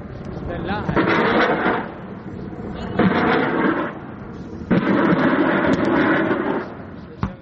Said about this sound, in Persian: تبادل آتش میان نیروهای دستگاه مبارزه با تروریسم عراق و شبه نظامیان گروه حکومت اسلامی در جنوب غرب موصل. هلیکوپترهای ارتش عراق هم مواضع شبه نظامیان را بمباران می کنند.